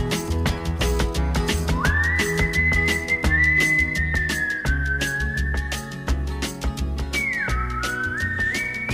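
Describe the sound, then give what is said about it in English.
A man whistles his trademark bright, sliding melody in a 1969 song over an upbeat band with steady drums and bass, the whistle clear and prominent in the mix, holding long notes and gliding between pitches. “that trademark whistle of his, 1969,”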